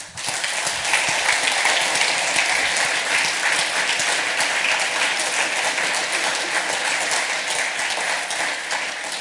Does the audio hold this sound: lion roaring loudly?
no